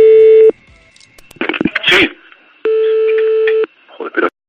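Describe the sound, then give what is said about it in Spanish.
A telephone call being placed to football referee Antonio Jesús López Nieto, with two phones calling at the same time: two long, steady electronic tones, each about a second, separated by brief muffled bursts that resemble voices or line noise, ending with a short garbled sound. “Eso, te llamamos con un teléfono a ti y con otro a él al mismo tiempo y pasó lo siguiente.”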